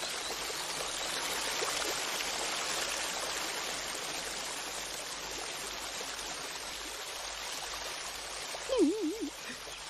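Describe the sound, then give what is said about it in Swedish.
A steady babbling stream trickles and gurgles continuously throughout, with a brief wavering, warbling tone rising over the water near the end. “Att det porlar och det rinner.”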